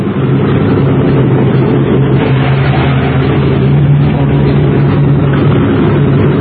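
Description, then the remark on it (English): An airplane engine drones steadily as the plane leaves, a dense low rumble with a sustained humming tone that holds at an even, loud level throughout, with no voices. “As soon as the plane goes, Louis.”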